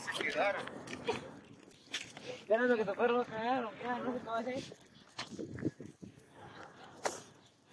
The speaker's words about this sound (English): Hold on, someone's walking.